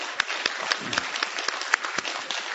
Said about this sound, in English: We thank you for the good singing, and we'll make up for that clap right now. Let's all clap tonight.